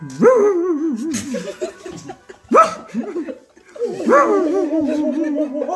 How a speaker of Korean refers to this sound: 모두 깜짝 놀라 벌벌 떨고 있는데 토토가 사자 앞을 가로막고 멍멍 짖어댔어요.